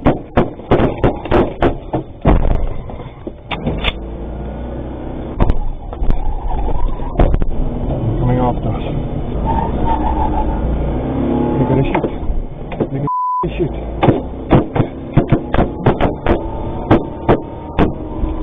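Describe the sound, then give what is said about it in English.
Rapid bursts of sharp gunshots from robbers chasing a moving armored truck crack outside over a steady engine rumble, clustering at the start and again near the end, captured by the dash cam inside the cab of the truck, which has a South African driver. “But check out the gunshots captured by the guy driving this armored truck.”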